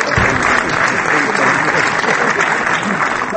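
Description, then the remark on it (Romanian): Sustained audience applause lasting minutes for Antanas Mockus at a cinema in Bucharest, Romania, after a screening of the film Bogotá Change and a debate. A dense wash of many hands clapping at a steady, loud level throughout with no clear pauses, though a faint murmur of voices may sit underneath. “Aplaudat minute în șir, Antanas Mockus a explicat”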